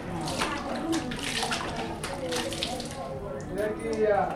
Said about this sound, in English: so she heads into the shower stall and just dumps the cold water over her head.